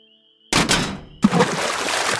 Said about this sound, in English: The sudden noise startled me as I realized that I had accidentally knocked one of our old crawfish cages into the swamp and it wasn't tied off.